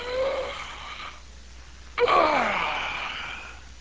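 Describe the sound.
A person imitates a big old lion's roar with two loud, raspy growls: a shorter one, a brief pause, then a longer rumbling roar that slides downward in pitch and slowly fades.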